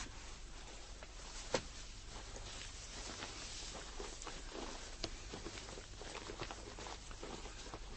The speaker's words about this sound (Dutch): Heerlijk, hè? Dat stappen door die droge sneeuw.